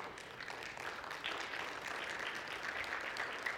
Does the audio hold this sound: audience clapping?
yes